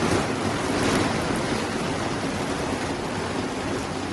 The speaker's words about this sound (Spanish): Es el sonido de las aguas copiosas de toda la noche, con cortes de suministro eléctrico en distintas zonas, achiques de inundaciones y zonas embalsadas.